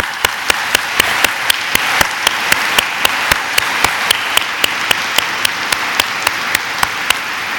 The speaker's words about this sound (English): If you believe we have a leaderful pool of pastors in this conference, I want you to join me in applauding.